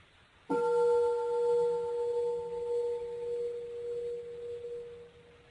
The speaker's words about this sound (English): Okay, we'll ring the bell from here.